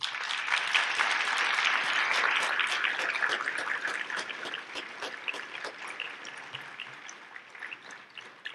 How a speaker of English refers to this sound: So in fact, if you're a program committee member, please stand up. And I'd like to give you a big round of applause for all the effort you put in.